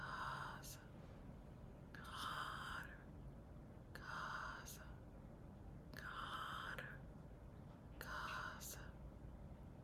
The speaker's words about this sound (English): Now just whisper with the name, so it'll be like this.